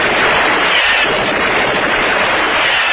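A sustained burst of submachine gun fire, the shots blurring into one loud, continuous rattling roar that holds steady for the whole stretch without pause or voices.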